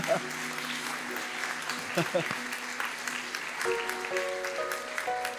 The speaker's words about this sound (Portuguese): Podemos aplaudir o Senhor pela vida dela?